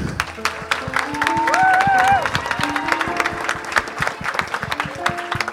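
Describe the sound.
An audience applauds four women being introduced, steadily for several seconds, a dense patter of many hands clapping, with a few raised voices cheering over it early on before the clapping continues evenly.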